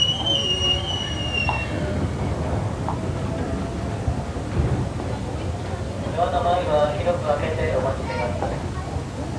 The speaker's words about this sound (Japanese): 3番線に到着した電車は各駅停車吉祥寺行きです。